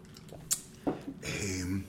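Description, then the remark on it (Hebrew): Someone drinks a glass of water: a sharp click, then a short wet gulp, followed by a breathy, faintly voiced exhale at moderate loudness. “נשתה כוס מים.”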